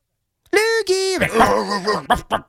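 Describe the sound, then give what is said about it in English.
A human voice imitates a dog, making a few drawn-out, yelping bark sounds in quick succession, loud, ending with short choppy vocal bursts. “He's a dog.”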